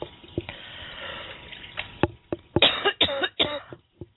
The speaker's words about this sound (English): Excuse me. Excuse me, ladies and gentlemen, I had a bit of a coughing fit here.